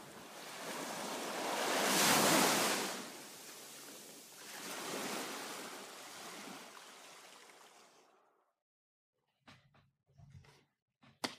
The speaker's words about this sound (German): Und als der Druck endlich aus seinem Kopf entwich, war er umringt von nichts außer dem Rauschen des Meeres.